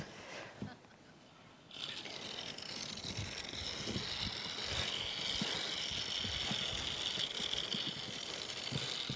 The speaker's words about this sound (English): Okay, so it's actually operating the fuel cell right now, which is combining the hydrogen and oxygen together, directly making electrical energy, which is driving the mechanical motors of the car.